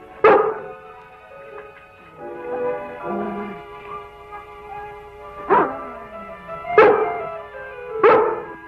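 A female dog barks at something back there in short, sharp bursts: one at the start, then three more spaced out toward the end, loud, with a soft whine and faint background noise between barks.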